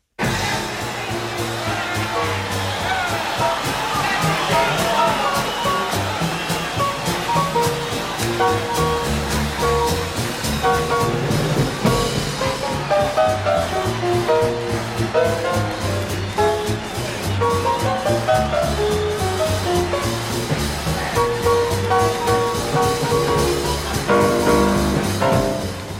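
A crowd roars and cheers loudly and continuously at the 1956 Newport Jazz Festival while the bandleader solos with a live big band playing jazz, the horns and rhythm section driving steadily beneath a thick wash of audience noise.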